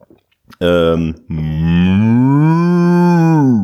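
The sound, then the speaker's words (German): A person, asked to imitate animal sounds, imitates a cat with a loud vocal meow: a short call, a brief pause, then a long drawn-out cry that rises and falls in pitch. “Das war eine Katze, eine sehr gute Katze.”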